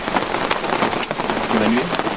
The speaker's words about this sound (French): Attention, soyez attentifs parce qu'on entend aussi beaucoup la pluie.